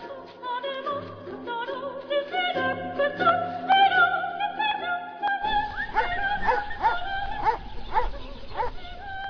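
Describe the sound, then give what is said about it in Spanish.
A dog sniffing at hunters' food leftovers by an olive grove in Morata de Tajuña yips and whimpers in a steady string of high, whining cries and short excited yelps, with a low background rumble joining partway through. “meditaba a los pies de un olivar mientras su perro husmeaba los restos de comida de unos cazadores.”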